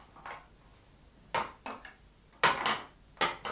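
A door being locked: a handful of sharp metallic clunks and rattles at irregular intervals, the loudest near the end, with no voices.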